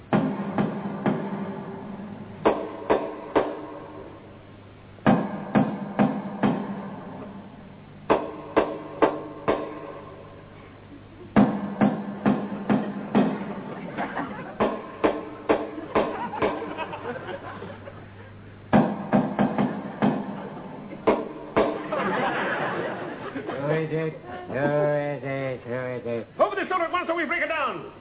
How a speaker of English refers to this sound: This is the house, and I shall now give the secret knock that only he and I know.